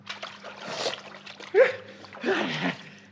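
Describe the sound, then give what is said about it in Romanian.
Water splashes and sloshes in a few bursts as someone is made to get into a cauldron of water. The movements are fairly loud, with dribbling between them over a low steady hum. “Hai, intră în cazanul cu apă aici.”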